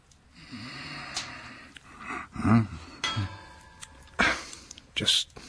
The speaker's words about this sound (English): Just moving your glass, sir.